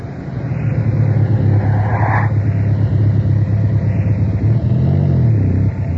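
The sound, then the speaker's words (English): A car engine rumbles steadily as the vehicle drives, with a low droning hum that shifts in pitch near the end as it slows to pull up. No voices. “Okay, here we are. Oh, great. What's up? Stay in the car.”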